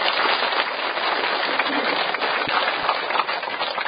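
A crowd of Buddhist followers applauds steadily to welcome a monk giving an evening dharma talk, many hands clapping into a dense, even patter that holds at a constant level for about four seconds with no voices over it.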